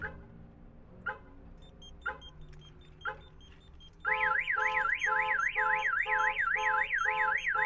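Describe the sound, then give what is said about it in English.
A truck alarm goes off as the armed truck's door is opened: a few short chirps about a second apart, then a loud siren that warbles rapidly up and down and blares continuously to the end. “So now the alarm not only goes off when someone opens the door, but it also alerts me here on the pager.”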